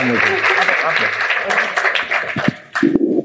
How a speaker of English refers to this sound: Well, round of applause to the panelists